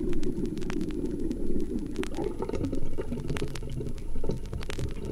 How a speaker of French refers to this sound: Les gargouillis des tuyauteries.